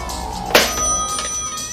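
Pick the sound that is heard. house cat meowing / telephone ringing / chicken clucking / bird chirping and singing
telephone ringing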